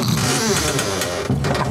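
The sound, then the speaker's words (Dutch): A steady electric motor whirs and hums for the whole stretch as a car's steering wheel moves toward the driver after the car door is closed, with a few faint clicks and no voices. “Ik doe de deur even dicht, komt de stuur naar je toe.”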